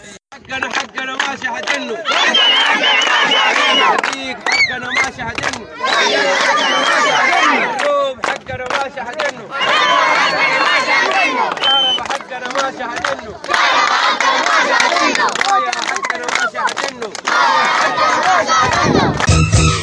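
A large crowd at a protest vigil by the Resistance and Change Committees chants in loud, rhythmic bursts, voices rising and falling together in repeated shouted phrases with brief gaps between waves, sustained for the whole stretch; protesters denounce poor electricity, water, health and education services.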